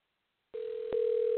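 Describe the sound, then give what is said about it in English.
A steady, mid-pitched ringing tone of an outgoing phone call to a randomly chosen person, placed live on air on Let's Talk Real Talk with Tough Cookie, starts after a moment of silence and holds without a break, with a brief click partway through. “Let's see if this individual is going to answer the phone.”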